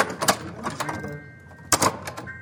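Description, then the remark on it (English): A small wooden sound-effects prop door for radio drama, tested by students, rattles its latch with a few sharp clicks, swings open on a thin creak, then shuts with a solid clack-clack. “shows me that thing that all radio dramas need, a door.”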